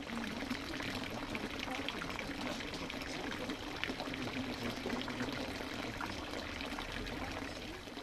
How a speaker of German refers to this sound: Und das Brunnengeplätscher sei einer der schönsten Töne für unser Ohr, weil das Trinkwasser bedeutet